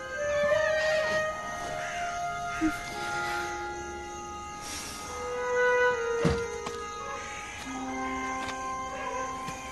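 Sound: dog howling and whimpering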